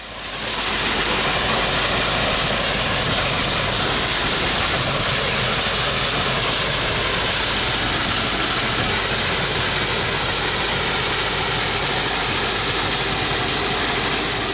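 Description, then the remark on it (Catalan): A steam engine runs flat out, a loud, steady roar of hissing and churning machinery that swells in quickly and holds constant throughout, with no voices. “Ara posarem en marxa la màquina de vapor que balla tota pastilla.”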